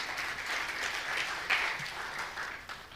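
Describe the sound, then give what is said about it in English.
An audience at a church service claps together in a steady, dense burst of applause, many overlapping hand claps forming a continuous crackling wash that holds level for a few seconds. “Clap for, yeah.”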